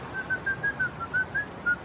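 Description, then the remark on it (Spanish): A man whistles a short tune as he walks along: a quick run of clear, bright notes that rise and dip slightly in pitch, evenly paced and fairly quiet, with no talking. “que va silbando.”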